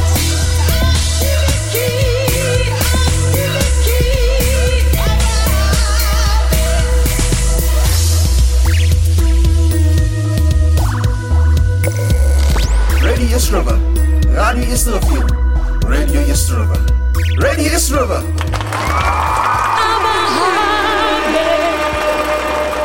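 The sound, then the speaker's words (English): An amapiano dance remix plays loudly and continuously, with deep, rhythmic log-drum bass pulses driving under layered synths and sung vocal lines throughout. “that was the I'm a Piano remix”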